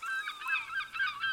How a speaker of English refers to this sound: There are seagulls, waves, and the creaking of a ship.